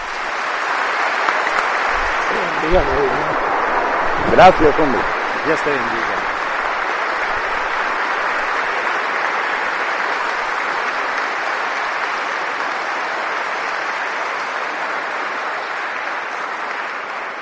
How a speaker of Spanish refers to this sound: No está mal que en el momento de despedirte prácticamente de esta tierra, te brindemos un aplauso más.